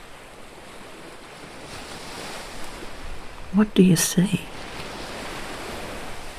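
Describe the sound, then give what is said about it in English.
Steady ocean surf washes continuously, a broad hiss of waves rolling onto the shore, with a soft voice briefly speaking over it midway before the surf carries on alone. “What do you hear? Seagulls. Wind in the trees or the leaves. The waves.”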